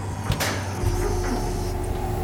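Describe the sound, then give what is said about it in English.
A mechanical door slides open with a short hissing whoosh, followed by a steady low motor hum that continues to the end. No one is speaking. “Definitely opening the doors.”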